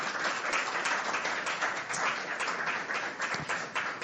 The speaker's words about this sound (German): Ich darf recht herzlich mit einem kräftigen Applaus begrüßen